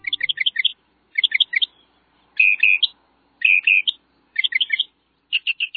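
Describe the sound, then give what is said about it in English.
A northern mockingbird sings loud, clear phrases, each note repeated several times in quick bursts with short pauses between, shifting to a new phrase type with each burst. “Some birds have a lot to say, but few surpass the northern mockingbird.”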